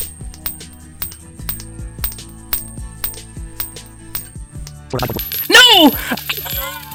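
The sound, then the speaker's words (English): Small coins being juggled clink against each other in a quick, irregular rhythm, then drop, spilling and clattering together in a louder burst as a voice briefly cries out. “We're gonna consider that I have mastered six coins.”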